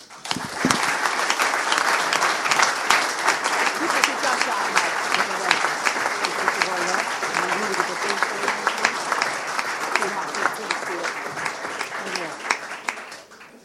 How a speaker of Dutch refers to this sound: En ik verwacht van u wederom een daverend applaus.